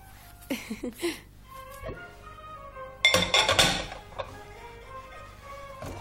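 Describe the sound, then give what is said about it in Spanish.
Dishes clink and clatter as they are washed, with a burst of bright, ringing knocks near the middle and scattered lighter taps around it, with no talking. “no le digas que estoy lavando los platos.”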